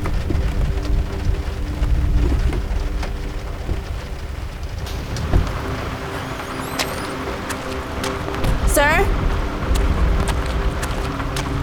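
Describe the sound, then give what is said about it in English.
Heavy rain pours down steadily and continuously, a dense rushing wash with a low rumble beneath it, broken midway by a few brief, high chirping sweeps. “The sky's soaked, but at least it'll help.”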